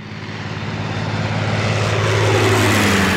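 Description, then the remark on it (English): A red propeller plane, Porco's, drones past, its engine hum growing steadily louder and its pitch sliding downward as it approaches and passes, with no voices. “Red plane. What? Where?”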